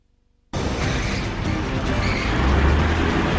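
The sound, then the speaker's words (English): A police squad car drives down a ramp into an underground car park, its engine noise and tyre rumble cutting in abruptly after a brief quiet, staying loud, with a deeper rumble swelling toward the end. “A police squad car glides down a ramp into an underground car park.”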